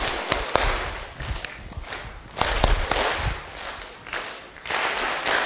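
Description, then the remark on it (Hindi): An audience claps together in a special counted pattern like a band, 1-2 then 3-4-5 with hands raised up high, a dense wash of hand claps with sharper accented claps landing at regular beats. No one speaks. “जैसे वो बैंड बजाता है ना, पहले इधर बजाता है, फिर इधर वाले का बजाता है, फिर इधर बजाता है, तो आपने क्या करना, मैं कहूंगा 1 2, फिर 3 4 5 ऊपर तक जाके आपने ताली बजानी है।”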